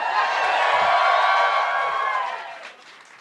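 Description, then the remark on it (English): A live show crowd in Philadelphia cheers and whoops loudly in a dense, sustained roar that holds steady for about two seconds, then fades away toward the end. “Yeah, we got the energy back up. Yeah! Look at this crowd.”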